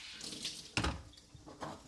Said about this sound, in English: That morning, I washed my dishes before going to work.